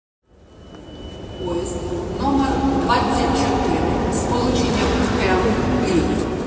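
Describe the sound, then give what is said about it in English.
A train rumbles along the tracks, the low steady roar swelling in over the first couple of seconds and then holding loud, with faint indistinct voices mixed in. “The Ukrainian railway system, in many ways, is the lifeblood of the Ukrainian war effort.”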